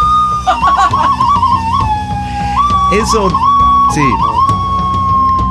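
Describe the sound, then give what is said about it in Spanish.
A skull-shaped whistle is blown, the player covering the skull's eye holes with his fingers, sounding a loud, shrill, wavering tone held almost continuously, with short bursts of laughter or voices breaking in twice partway through. “eso que están escuchando ustedes, no. Es como un silbato, pero en realidad tiene una calavera.”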